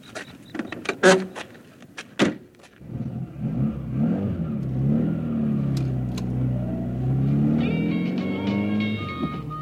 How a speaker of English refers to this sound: I got into my car and started driving.